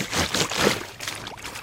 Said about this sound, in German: Da bin ich gespannt, ob das auch eine Erinnerung weckt bei dir. Also Wasserplatschen.